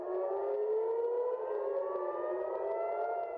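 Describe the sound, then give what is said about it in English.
A civil defense air raid siren in Tel Aviv wails continuously on a Friday night, warning residents of missiles, its rising tone sweeping slowly upward, loud and steady with no voices present. “Sirens sounded throughout Tel Aviv on Friday night, reminding the residents to seek shelter against missiles flying over the sky.”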